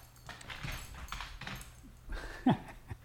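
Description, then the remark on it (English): A female dog named Doyle gives a single short, high whimper near the end, amid soft scuffling and thumping as she lies on her back and moves all four feet about, doing 'doggy yoga'. “Are you doing doggy yoga? Doggy yoga. She gets on her back and moves all her 4 feet.”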